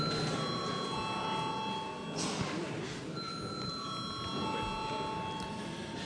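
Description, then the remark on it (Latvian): An electric bell rings continuously and loudly in the chamber of the Latvian parliament (Saeima) before a vote, a steady metallic trill with a brief dip partway through before resuming, with no voices. “Paldies, lūdzu zvanu.”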